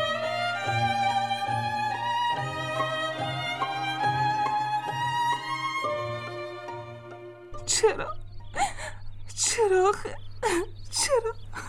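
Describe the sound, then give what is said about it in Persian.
Sustained music plays, then gives way to a woman, as Jane Austen, crying and whimpering, her shaky, wavering sobs coming in short broken bursts over a low steady hum. “عزیزم اگه گریه نکن، از وقتی از پیش جک آمدی داری یک سر گریه میکنی.”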